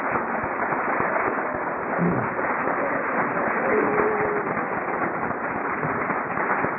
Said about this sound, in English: He's a very beautiful man and certainly well-deserved round of applause.